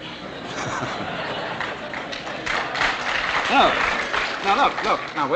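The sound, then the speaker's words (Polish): Sustained audience applause, a dense crackle of many hands clapping at steady loudness for several seconds, with scattered voices and a few cheers rising over it near the end. “Być może nie będziecie klaskać, kiedy skończę.”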